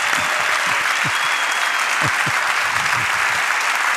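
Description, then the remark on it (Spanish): Spontaneous applause from a live audience of radio listeners at a radio broadcast in Madrid: a steady wash of many hands clapping at once, dense and fairly loud throughout, with no voices standing out. “Oye, son los aplausos espontáneos.”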